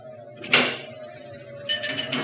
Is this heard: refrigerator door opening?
yes